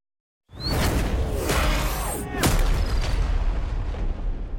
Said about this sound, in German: Ein ohrenbetäubender Knall riss ihn aus seinen Gedanken, gefolgt von der schrillen Kakophonie der Alarmsirenen, die aus den Gängen widerhallten.